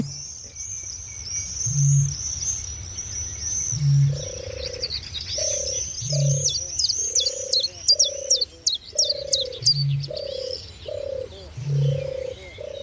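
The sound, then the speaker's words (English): A deep, hollow booming bird call repeats about every two seconds, low and breathy like air blown over a bottle, beneath a busy chorus of high chirping songbirds and steady mid-pitched calls. “I think that's a bit booming in the background. So there's somebody blowing across an open bottle.”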